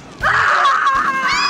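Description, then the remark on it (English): A loud, high-pitched scream bursts in after a brief pause and holds steady for over a second, shrill, with no talking around it. “The scariest thing this Halloween could be the screaming itself.”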